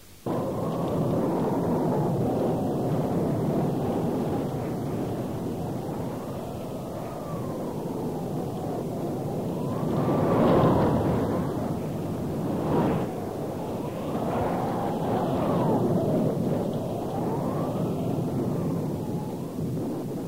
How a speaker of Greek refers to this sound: Πράγματι, αμέσως άρχισε ένας φοβερός κατακλυσμός με βροχές, αστραπές και πλημμύρες που έπνιξαν όλους τους ανθρώπους εκτός από τον Δευκαλίωνα με την πείνα.